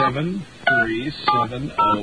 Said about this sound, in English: Dial the wrong number. Here we go.